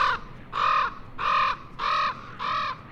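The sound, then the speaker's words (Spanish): A raven gives five evenly spaced, harsh croaking calls, each about a third of a second long and loud, with quiet background noise between them. “Por eso los cuervos pueden sobrevivir durante el invierno muy arriba en el norte.”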